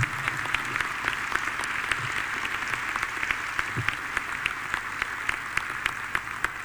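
A crowd applauds steadily for the speaker's wife for several seconds, a dense wash of many hands clapping at a moderate, even level, with sharper individual claps popping out. No one speaks over it.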